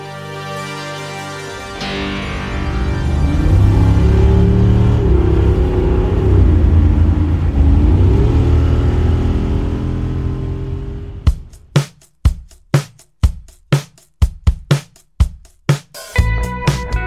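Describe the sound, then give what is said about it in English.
A car with an optional canvas top roars, its engine revving and accelerating with a rising and falling pitch for about ten seconds, then giving way to a series of sharp, rhythmic thumps. “This is America on four wheels with an optional canvas top.”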